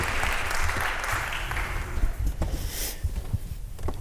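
An audience breaks into applause, a dense wash of clapping that stays steady for a few seconds before thinning into scattered, individual claps toward the end.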